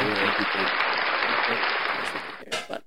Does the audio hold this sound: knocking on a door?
no